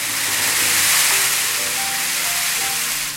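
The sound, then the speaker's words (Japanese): A steady, dense rushing hiss of a large amount of azuki beans poured into a bowl, rolling and sliding to imitate the sea, sounding like surf washing on a shore; continuous and fairly loud throughout, with no voices. “今も大量の小豆は器にぶちまけて、ちょっと海がなくなってきました。”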